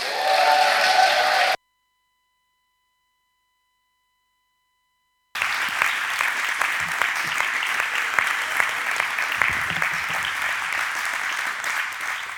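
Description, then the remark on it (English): An audience applauds in welcome for Simeon Fuchs, a speaker from the front lines of ministry in Scandinavia: a short loud burst, a sudden stretch of dead silence, then dense, steady clapping that continues strongly to the end. “And I want to hear a roaring welcome to Simeon Fuchs.”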